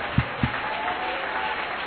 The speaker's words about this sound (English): Would you clap your hands, everybody? Would you clap your hands?